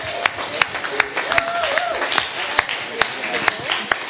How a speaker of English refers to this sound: All three are adopted. And a big round of applause.